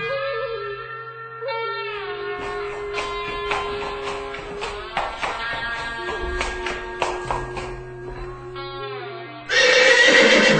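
A white horse whinnies loudly in long, wavering, falling cries over a steady low drone, with scattered tapping hits throughout and a sudden burst of hiss at the very end.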